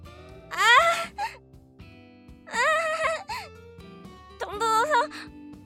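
A person getting a foot massage lets out three drawn-out, wavering moans, fairly loud, each lasting under a second with short pauses between them and no words spoken; the moans come because the massage pressure is too light and tickles.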